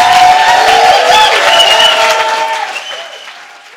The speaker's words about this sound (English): Oxford Hammer and Tongue audience, please give it up for